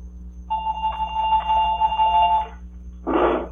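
A telephone rings late at night, once with a steady electronic trill lasting about two seconds, followed after a brief pause by a short, harsher burst. It is clear, with no talking.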